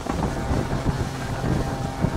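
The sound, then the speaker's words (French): A steady low rumble of the engine of the huge container ship CMA CGM Jacques Saadé as it enters the port of Le Havre, beneath gusting wind buffeting the microphone, a continuous, fairly loud maritime ambience with no voices. “On embarque dans la rade du Havre quand soudain, l'immense silhouette du CMA-CGM Jacques Saadé fait son entrée dans le port.”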